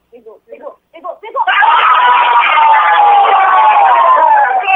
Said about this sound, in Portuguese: A disputa então foi para os pênaltis e foi na última cobrança que o grito dos maringaenses saiu depois de ficar mais de uma hora e meia entalado na garganta.